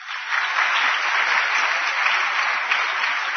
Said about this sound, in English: Well, I was happy that more than one person clapped now, okay?